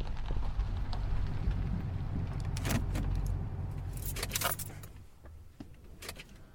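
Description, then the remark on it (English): A truck rumbles low and steady over a bumpy dirt road on the drive up to a metal gate, with sharp rattles and clunks as it bounces over bumps and potholes, before the engine drone drops away and a few scattered clatters remain. “is a different sound clip that I added as a separate track, just to bring some variety and realism to the drive up to the metal gate.”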